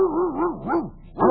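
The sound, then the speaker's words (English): Fairly loud whimpering from a dog in a kennel, several rising and falling whines in a row, ending in a short sharp bark, with no talking. “No, just my dog.”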